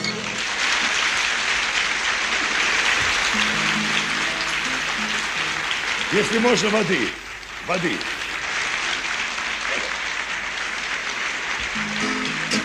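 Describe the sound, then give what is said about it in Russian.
Sustained applause from a large audience early in the morning, a dense steady clapping, with a man's voice briefly speaking over it midway before the clapping carries on. “Аплодисменты – это очень приятно.”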